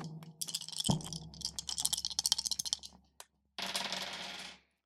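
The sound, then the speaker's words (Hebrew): Three dice, rolled in a tabletop game, clatter and tumble across a hard surface in a quick series of sharp, bright clicks, followed by a short pause and a brief, dense rattling burst as they settle. “הידד, אם כך, אני אגלגל 3 קוביות.”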